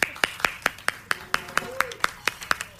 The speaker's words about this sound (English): And do you want to give a quick round of applause to your band there? Yeah.